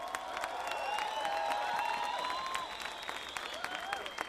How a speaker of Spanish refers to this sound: Así que un aplauso para todos los pueblos de América.